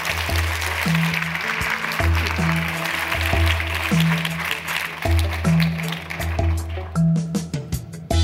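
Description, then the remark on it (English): Steady audience applause for new IMF managing director Kristalina Georgieva, a dense crackle of many hands clapping that holds at an even level for about eight seconds, with a low, sustained tonal hum beneath it. “Let's just have a round of applause for that.”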